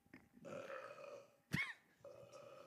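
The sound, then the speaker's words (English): A long, croaky burp rumbles, broken by a sharp thump partway through before the belching drags on again. Nobody speaks. “I didn't burp into the mic, okay?”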